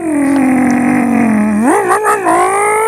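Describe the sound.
A voice imitates a revving street racing muscle car: a steady, low droning hum that swoops up in pitch, wobbles through a couple of rev bursts, then settles into a higher sustained tone.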